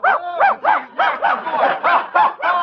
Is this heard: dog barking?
yes